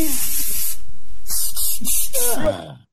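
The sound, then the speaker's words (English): Crisp spritzes of perfume from a spray bottle: one long hissing burst, a short pause, then four quick pumps in a row, with a voice murmuring faintly underneath. “I'll just spray some perfume about.”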